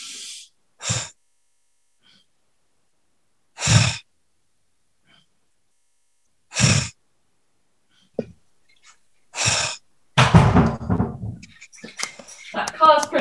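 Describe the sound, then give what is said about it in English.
Slow, deep belly breaths during a timed 60-second group breathing exercise with eyes closed, about five airy inhales and exhales spaced roughly three seconds apart, followed by a person starting to talk. “Apologies for hearing my deep breathing, but when you can hear someone else, it sort of helps. Breathe right into your belly.”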